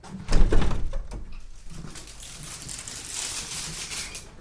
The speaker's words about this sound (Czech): Tak, velmi opatrně otevíráme dveře voliéry.